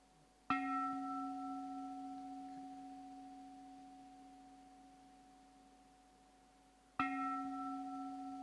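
A deep temple bell is struck twice, several seconds apart, each strike ringing out with a long, steady hum that slowly fades. No voices are heard.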